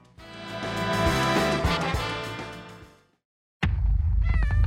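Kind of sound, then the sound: sound effect, cat meows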